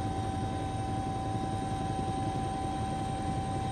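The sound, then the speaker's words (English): A helicopter hovers and turns over an island, about to come down, its steady rotor drone and whining engine tone filling the air continuously and loudly, with no talking. “He's now almost over it, and I think he's going to come down now and try to get us off the helicopter.”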